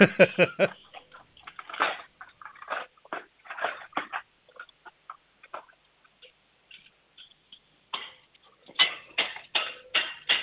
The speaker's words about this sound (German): Und jetzt hätte ich gern, dass du in die Küche läufst, die Bestecklade aufmachst, alles Besteck in die Hand nimmst und dann so richtig schön laut reinfallen lässt, das richtig Lärm macht.